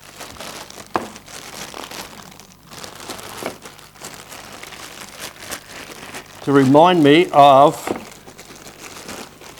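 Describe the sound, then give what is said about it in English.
Crinkly wrapping is pulled and unwrapped from a hammer, a steady stream of crackling, rustling bursts, with a short spell of someone talking over it near the end. “I had to wrap it up a lot.”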